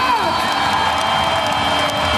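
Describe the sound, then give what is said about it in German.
A dense, roaring crowd cheers continuously at an indoor handball match between Füchse Berlin and THW Kiel at the Max-Schmeling-Halle (the 'Fuchsbau') in Berlin. Whoops and shouts rise over a steady wall of noise throughout. “Ja, ich war bei den Füchsen Berlin. Beim Topspiel gegen THW Kiel. Beim Handball im sogenannten Fuchsbau.”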